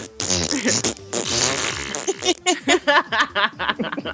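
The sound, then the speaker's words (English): Wet, buzzy fart noises blown with the mouth: a long sputtering raspberry at first, then a quick series of short, choppy bursts, loud throughout. “We can make fart noises.”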